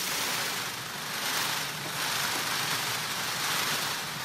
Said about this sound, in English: As this male Indian peafowl quivers his outstretched tail, it creates a rustling sound, almost like a drum roll.